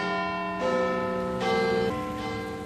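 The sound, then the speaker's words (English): The 14-ton Big Ben bell, of the largest clock in Britain, chimes the hour at 8 o'clock, striking a few successive deep tones that ring out and overlap with long, resonant decay, heard clearly on its own without any talking. “It chimes on the hour. We'll hear it in a few seconds, as it's almost 8 o'clock.”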